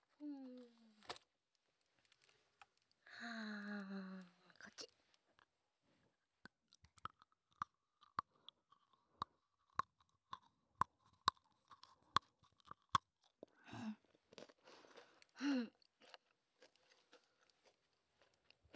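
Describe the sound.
Crisp crunching of an extra-thin snack, a quick irregular series of sharp crackles with soft mouth sounds between, after a brief voice-like hum at the start.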